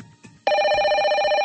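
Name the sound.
telephone bell ringing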